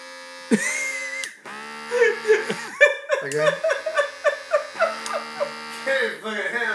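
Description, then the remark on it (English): An electric body shaver buzzes with a steady harmonic drone, starting and stopping a few times while people laugh over it in choppy bursts. “If that is a nether regions shaver, this is for the ether regions shaver.”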